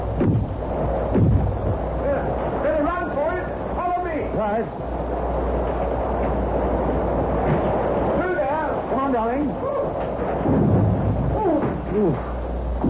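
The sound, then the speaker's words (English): A thunderstorm roars steadily with deep, rumbling thunder and gusting wind, loud throughout, while voices speak intermittently over the din. “It's better than driving through that horrible storm all the while.”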